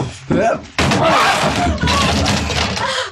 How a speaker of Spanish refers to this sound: Calimán se lanza con toda su prodigiosa fuerza muscular, embistiendo la puerta cerrada y haciéndola saltar de sus goznes